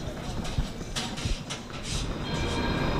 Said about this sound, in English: Modern light rail cars slide quietly along carefully laid track in the roadways.